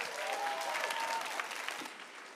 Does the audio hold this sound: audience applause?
yes